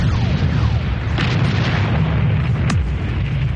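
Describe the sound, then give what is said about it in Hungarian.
Heavy cannon firing canister shot booms continuously in a loud, rumbling barrage, with a couple of sharper blasts cutting through the roar of battle. “Kartács tüzet!”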